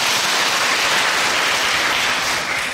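A round of applause from an audience at a Buddhist dharma talk, welcoming a participant invited up to speak, steady dense clapping at a loud level for a few seconds, tapering slightly at the end, with no voices.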